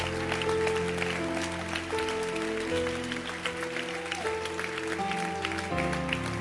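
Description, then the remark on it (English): A crowd standing on its feet claps steadily for the resurrection, the many hand claps blending into a continuous patter over loud, sustained keyboard chords that shift every second or so, with no clear talking. “Can you stand to your feet and clap your hands for the resurrection.”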